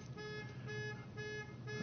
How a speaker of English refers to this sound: I set somebody's alarm off there.